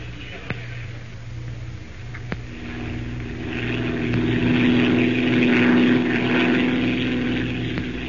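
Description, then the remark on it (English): A hired propeller airplane's engine drones steadily in flight, a low throbbing hum that swells louder toward the middle, then holds. A few faint clicks punctuate the drone; no one speaks. “We'll have to pack, buy some clothes suitable for the jungle, and most important of all, hire a plane to get us down there.”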